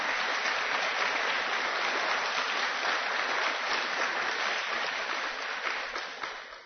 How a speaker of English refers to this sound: And you will stand up so they can applaud.